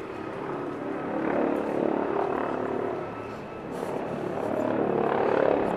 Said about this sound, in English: He's looking at the same helicopter I'm looking at.